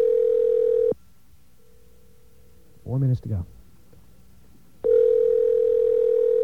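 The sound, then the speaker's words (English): A loud, steady telephone dial tone hums while a caller tries to reach the AT&T operator, cuts out for several seconds while a voice says a few brief words, then resumes at full strength until the end. “We're going to get the operator again.”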